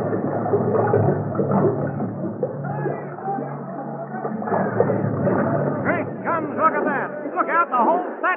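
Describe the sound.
On a motion-picture set, a crew dumps water for a stunt scene as a stuntman swims through a culvert: a heavy rush of water pours steadily for several seconds, a dense churning roar, while a crowd chatters underneath and voices grow more prominent toward the end.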